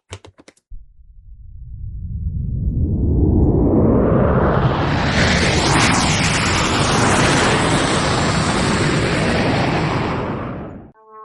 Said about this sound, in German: Hörst du das auch? Das ist aber ein lautes Flugzeug. Ich muss kurz gucken. Das ist bestimmt eine Lufthansa-Maschine, die fliegen immer so. Nein, ist ein Testflug von Finkenwerder.